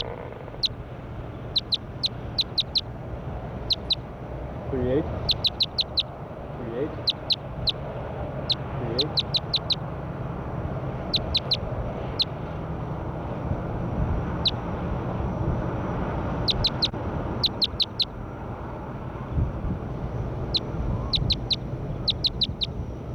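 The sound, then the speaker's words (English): Calls of the bird recorded as bird 38: quick clusters of high, sharp chirps repeat every few seconds over a steady, low background rumble, with a few softer warbling notes in between. “Start recording bird 38.”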